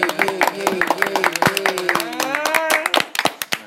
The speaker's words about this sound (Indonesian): Oke, kembali lagi kita di Clan Rock Podcast. Minta tepuk tangan dulu.